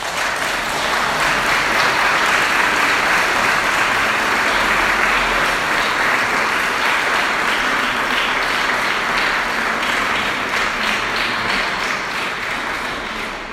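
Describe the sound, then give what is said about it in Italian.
An audience claps steadily and loudly, a dense crackle of many hands that holds without pause for the full stretch and fades only slightly at the end. “Forse se c'è da fare un applauso va fatto a lei.”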